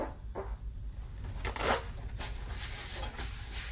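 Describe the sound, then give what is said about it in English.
Paper towels are rustled and torn off a roll in several quick, crinkly bursts, with the loudest rip near the middle and no one speaking. “Okay, I need paper towels.”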